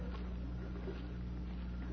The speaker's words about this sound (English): Hey, wait a minute. You hear that? Sounds like water. A brook, maybe.